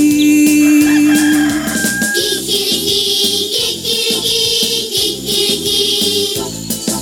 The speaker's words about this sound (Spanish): El gallo kikiriki salió corriendo al jardín a comerse un kilo de kiwis y luego a cantar así.